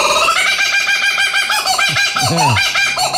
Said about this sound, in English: That is a kookaburra. And the kookaburra is only found in Australia and New Guinea, and not in the Amazon, and not in the African jungles, and not in the Asian jungles.